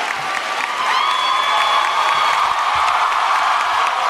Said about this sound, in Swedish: Sen går Bernie då ner från scenen och kramar henne och leder henne upp på scenen. Då blir det orkanjubel. Alla ställer sig upp.